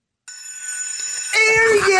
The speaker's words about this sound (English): Okay. Pause. That sounded like a school bell. It's a bell for the thing.